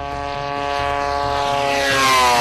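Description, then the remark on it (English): A propeller drone powered by a small two-cycle snowmobile engine and carrying a camera drones steadily with a dense harmonic buzz, growing slightly louder and rising in pitch as it passes, with no voices. “The engine is a two-cycle snowmobile engine pushing an expensive payload through the sky, an expensive camera.”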